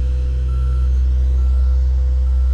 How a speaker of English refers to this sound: And the dump truck behind me is slowly backing up. Looks like the paver needs a new load of asphalt. So there's a lot of beeping sounds. I'm hearing a lot of beeping. Beep, beep, beep. Because a lot of stuff is backing up.